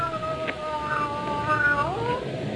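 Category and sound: animal, cat meowing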